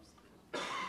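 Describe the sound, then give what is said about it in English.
After a brief near-silent moment, a single abrupt, harsh cough bursts out, loud and breathy, filling the rest of the short clip; the cough is made with the microphone turned off. “I turned off my mic so I could cough and then I forgot to turn it back on.”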